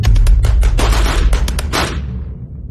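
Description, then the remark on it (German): A short, rapid burst of machine-gun fire that sounds like an MG-42, fired from the direction of an armoured vehicle circling helicopters: a loud string of sharp, cracking shots in quick succession for about two seconds, then a fading rumble. No one speaks. “Aus Richtung eines dieser Fahrzeuge hörte ich einen kurzen Feuerstoß, der sich anhörte, als käme er aus einem MG-42.”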